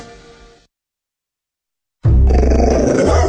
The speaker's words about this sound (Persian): ببخشید جناب، نژاد سگتون چیه؟ پیت بول. چند سالشونه؟ 2 سالشه ولی مشالله مثل 5 ساله هست. خوش اخلاقه؟ بد اخلاقه؟ وای نگین، he's so friendly. آروم و خوش اخلاق.